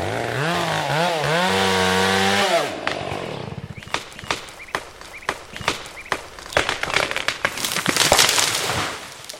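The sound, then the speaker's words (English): A chainsaw whines and revs, its engine pitch rising and dipping, then cuts out; a tree killed by bark beetles, being cut down near a road, falls with a series of loud, sharp cracks and crashing thuds of breaking branches. “Right now, there's no commercial logging allowed here, but they are cutting down trees killed by bark beetles around homes, roads, and campsites.”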